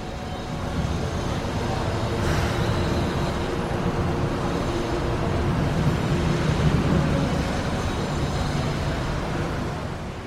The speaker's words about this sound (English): On some platforms, the sound of the street bleeds in. Here, birds and music mix with traffic.